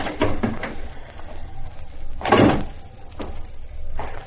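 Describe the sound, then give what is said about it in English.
A stage door being unlocked with a key and opened: a few small metallic clicks and rattles, then a louder thump-and-creak burst as it swings, with softer knocks trailing after. No one speaks. “I'm glad I insisted on Willis giving me a key to the stage door.”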